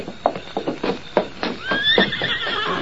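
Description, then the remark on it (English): A stagecoach horse whinnies loudly, its rising, wavering cry sliding up and down over a steady rhythm of hoof clops on hard ground. “The stage is all ready and the horses are waiting.”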